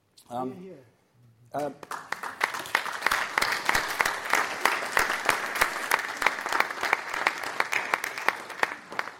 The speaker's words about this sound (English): Had a little speech which was designed to culminate in a burst of applause. We've done the burst of applause, so I'll can the speech.